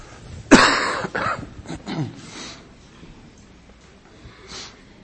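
A sharp cough from a person at the tail end of a cold bursts out, followed by a couple of rougher throat-clearing coughs that trail off, with a faint sniff near the end and no talking.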